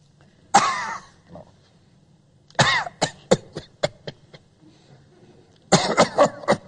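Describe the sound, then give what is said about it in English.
A man's voice mimics a bout of coughing: one hacking cough, then a rapid string of short, sharp coughs, and a final harsh cluster. Fairly loud, with no speech. “One amusing incident of doing this, at a PC Scientologist who was always coughing.”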